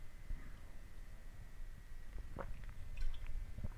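Someone quietly sips coffee, with a couple of soft, wet slurping sounds and a faint swallow against a low hum; no one speaks.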